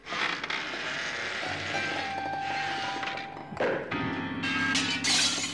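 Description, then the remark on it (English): A grand piano is pushed through a plate glass window of a conservatory by an abattoir owner from Birmingham during sex: a loud, sustained burst of shattering glass with a deep thud and humming, jangled strings, then a second jumble of breaking glass. “To the alarm of the assembled company, from the conservatory comes the unmistakable sound of a Brummy abattoir owner engaging so thoroughly in sexual congress that he's pushed a grand piano through a plate glass window.”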